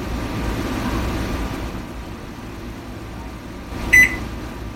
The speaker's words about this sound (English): I just heard a beep, but I didn't get any other indication.